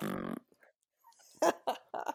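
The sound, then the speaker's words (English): Someone makes mouth fart noises: a buzzy, voiced blurt first, then after a pause three quick, sputtery raspberries in a row, fairly loud. “We all did different fart noises.”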